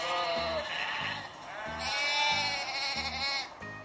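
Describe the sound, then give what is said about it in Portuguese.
A sheep bleats in long, wavering, quavering cries, two or three calls close together, over a steady low thumping beat in the background. “A ovelha, por mais nova que pareça ser, com velha no nome, é difícil convencer.”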